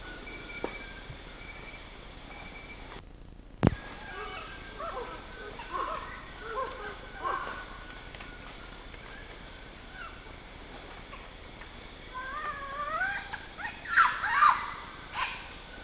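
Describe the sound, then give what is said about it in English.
Harsh animal barks ring out against a steady background of chirping insects: one sharp bark early on, then a cluster of rasping calls near the end. “Hideous barks.”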